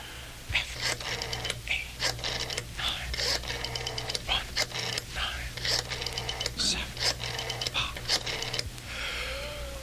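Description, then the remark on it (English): A telephone number is dialed in a Mike Nichols and Elaine May comedy recording: bursts of rapid mechanical clicking and whirring repeat in uneven groups over a steady low hum, with no one speaking. “Wait for the dial tone. Then dial your number, dial sir.”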